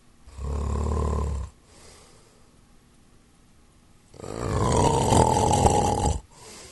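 A man, a father, snores loudly in his sleep: a deep, rumbling snort, a quiet pause of a few seconds, then a longer, harsher rasping snore. No one speaks.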